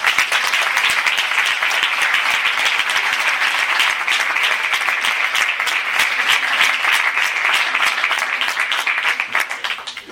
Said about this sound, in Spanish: Por lo tanto, tanto para los socios como a estos voluntarios que han trabajado muchísimo, pido un aplauso muy fuerte.